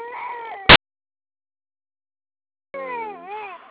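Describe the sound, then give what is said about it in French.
A 4-month-old baby, in a stuck truck, cries in two wavering, high-pitched bursts separated by a few seconds of silence. A short sharp crackle cuts off the first cry. Moderately loud. “Ok, avec moi qui est bloqué en camion, j'ai mon bébé de 4 mois.”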